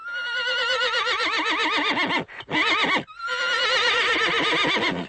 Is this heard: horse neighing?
yes